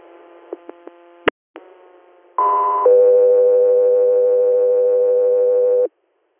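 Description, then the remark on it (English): Radio dispatch alert tones paging an air medical unit for an inter-hospital response in Bath, New York: a few short clicks and beeps, then a loud two-tone page, a brief higher tone stepping into a long, steady tone lasting about three seconds, with no talking. “South 3 Air, stand by for tones.”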